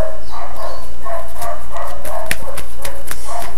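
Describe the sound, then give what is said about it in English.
A dog barks over and over in quick, uneven succession, loud mid-pitched yaps with sharp edges, with no talking. “Dogs.”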